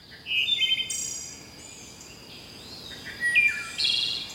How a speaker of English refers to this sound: And some more elusive birds to watch for, like this wood thrush.